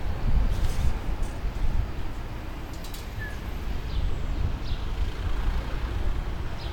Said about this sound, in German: Aber ich lasse kurz den republikanischen Bus durch.